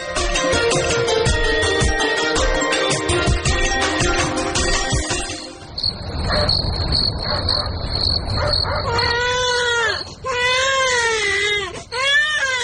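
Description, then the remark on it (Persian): After a stretch of music and a steady cricket-like chirp, a baby who has been sick for several days starts crying loudly, wailing in several rising and falling bursts until the end. “او مردکن چند روز میشه که بچه مریض است، سبا پیش دکتر ببرش.”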